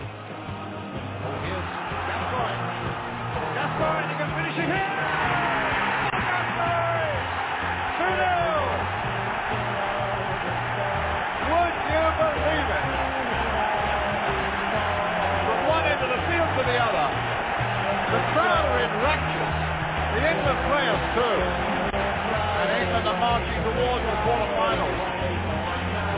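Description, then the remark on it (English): A football stadium crowd at the Euro 96 Championship match between England and Scotland cheers and roars in raptures without a break for about twenty-six seconds, a thick, steady wall of massed voices with a muffled, lo-fi quality and no quiet gaps. “But as the commentator said, the crowds are in raptures and so are the England team.”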